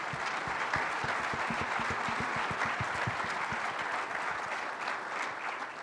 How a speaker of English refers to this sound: And so that concludes our panel discussion. So everyone, please give a round of applause for our panelists.